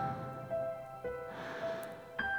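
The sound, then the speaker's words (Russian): A slow, deep breath drawn in through the nose during a belly-breathing exercise, a soft airy rush lasting about a second, over steady, sustained background music tones. “И вдох.”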